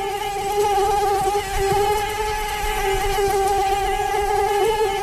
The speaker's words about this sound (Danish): Nemlig myg, og selvom de er rigtig trælse, så forbliver de kun ved trælse, men det kan meget snart ændre sig. For om få år kan vi måske blive syge at få et myggestik